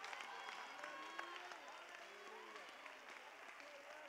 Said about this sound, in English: Oh, I wish you'd get on your feet and clap your hands one more time and somebody release faith.